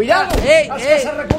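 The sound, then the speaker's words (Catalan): Two sharp, booming gunshots from the American Civil War, just broken out in 1861, one early and one near the end, cut through loud, urgent shouting voices that carry on throughout. “Els trets que sentiu no són de caces recompenses, provenen de la guerra civil americana que acaba d'esclatar.”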